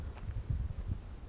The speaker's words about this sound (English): But the only thing I can hear right now is my footsteps on the sand.